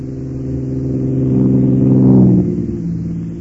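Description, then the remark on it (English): A car engine hums steadily, then revs and swells louder as it passes, peaking briefly before easing off as it moves away. “Number 12, Nick. Yep. And here comes 13.”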